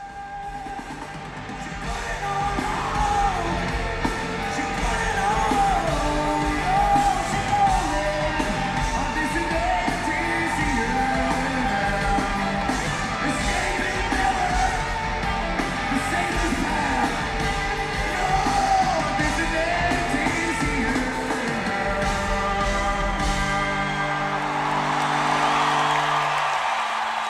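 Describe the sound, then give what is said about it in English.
A raw, screamed male vocal rides over loud, dense rock instrumentation, the shouted lines sustained and strained rather than sung, with the full band driving steadily throughout and swelling near the end. “It's not necessarily singing. It's not necessarily screaming in melody. He just screams it.”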